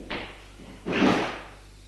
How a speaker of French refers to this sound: Arrivé au premier étage, un domestique ouvre une porte.